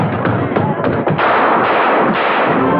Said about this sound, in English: We thought we heard some shots. You did. Cops just caught him, ran right into him. Did anybody get hurt?